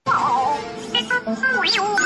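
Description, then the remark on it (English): The film robot droid BB-8 from the movies chatters in quick electronic beeps and warbling chirps, the pitch sliding up and down in a busy, continuous burst lasting about two seconds, with no one talking. “So here's BB-8 from the movies. I'm just gonna play it.”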